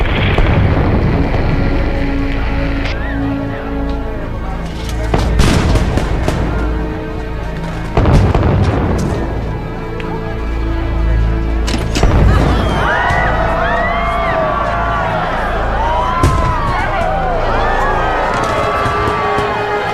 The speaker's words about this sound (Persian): این آتیش بازی به خاطر کمک شماست.